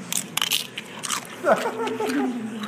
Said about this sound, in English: We're in a chip restaurant. Stage one of digestion. Chewing. Mm-hmm. Masticating.